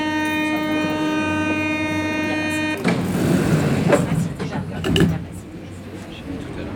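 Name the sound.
metro train running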